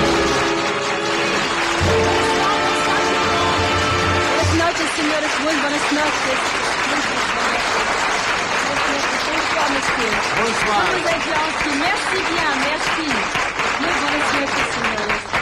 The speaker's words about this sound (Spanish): recibe el aplauso de bienvenida porque no es otra que la muy célebre y popular …. …, para ella el aplauso de bienvenida.